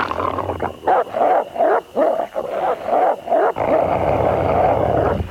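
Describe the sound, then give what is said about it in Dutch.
Several wolves howl together, their wavering, overlapping calls rising and falling in short bursts before merging into a dense, continuous chorus. No one speaks. “Ook is het huilen een goede manier om aan andere groepen wolven te laten horen hoe groot de roedel is.”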